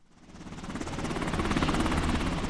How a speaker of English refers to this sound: It's just a short helicopter ride from Indianapolis to Camp Atterbury Muscatatuck, where some of the rundown buildings are now adorned with Afghan flags and pictures of President Hamid Karzai.